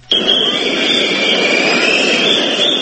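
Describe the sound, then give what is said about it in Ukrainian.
A loud, dense crowd roar of shouting voices with shrill whistling riding steadily on top, starting abruptly and holding at a constant, continuous level throughout. Protesters who lost their jobs demonstrate in the rain on Piazza della Scala in Milan, Italy, facing police batons, throwing eggs, setting off firecrackers and chanting "Shame". “Свист і галас на Міланській площі «Скала».”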